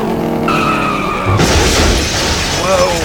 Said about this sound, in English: Seriously, an easy left and my car is still drifting.